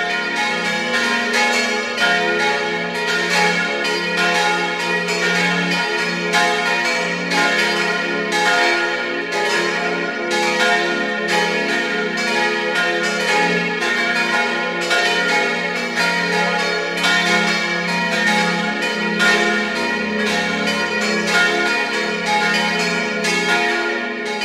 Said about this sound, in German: Es ist 12 Uhr. Sie hören die Glocken der Kirche zum heiligen Ottmar in Gaisau in Vorarlberg.